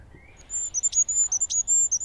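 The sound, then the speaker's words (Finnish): A goldcrest call plays back from a device to draw in nearby goldcrests: a rapid series of very high, thin, needle-like notes repeating for about two seconds, fairly clear against a quiet background with no talking. “Mä laitan täältä hippiäisen ääntä.”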